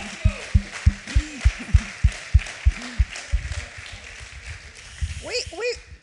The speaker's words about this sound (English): We like to praise the Lord by applauding and stuff, so don't freak out.